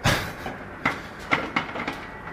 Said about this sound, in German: Ja, die Eiswürfelmaschine. Ein sehr gerne gehörtes Geräusch.